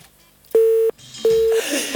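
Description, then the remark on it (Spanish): Steady electronic telephone tones beep in short bursts in the afternoon: three clear pulses at an even pitch with brief gaps, loud, like a phone line signaling an incoming call, with no one speaking. “Tenemos teléfono a esta hora de la tarde.”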